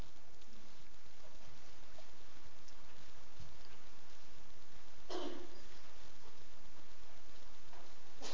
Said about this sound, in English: I love to hear the rustling pages, amen? If you use if your cell phone or your laptop, whatever has the Bible on it, make sure you get the sound that comes out like pages turning, okay? Or make the sound.